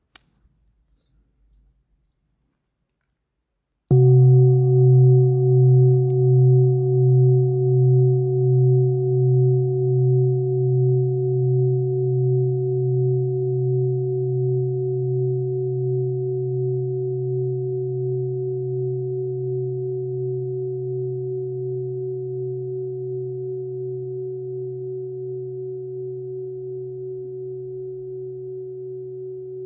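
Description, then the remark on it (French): A large singing bowl weighing 1,420 kg is struck once with a mallet after a moment of silence, then rings with a deep, low hum and bright overtones, pulsing gently as it slowly fades over many seconds. “1,420 kg pour ce bol en scie. On l'écoute d'abord.”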